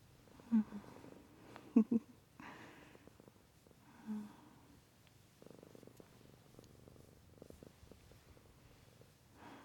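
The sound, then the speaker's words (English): A kitten purrs in a steady low rumble, broken by a few brief louder snuffly bursts near the start, with no voices. “Kitten, you're the sweetest fucking thing I've ever known.”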